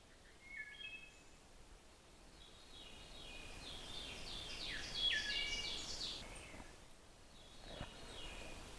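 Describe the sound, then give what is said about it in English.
A male wood thrush sings a few flute-like phrases, soft, with short pauses between notes over a steady outdoor hiss. “His song is one of those flute-like songs. And he says, "Eole," and sort of continues those little phrases.”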